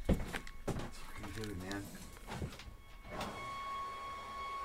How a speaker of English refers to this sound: Leaf blower. You've got leaf blower noise. Yeah, yeah. They have a filter for that.